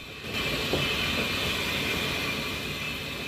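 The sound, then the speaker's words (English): The steam locomotive Flying Scotsman running past crowds of waving spectators, a loud, steady wash of rumbling and hissing noise with a thin high whine held throughout and no voices. “There's definitely something about a steam engine as you're going past crowds of people, because they always wave at you no matter what you're on.”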